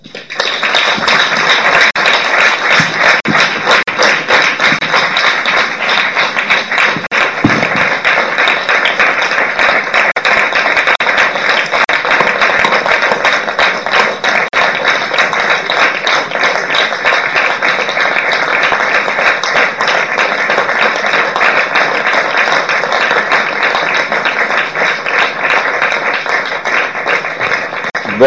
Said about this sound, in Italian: Prolungato applauso è il segno più evidente e tangibile di quella che è stata questa serata.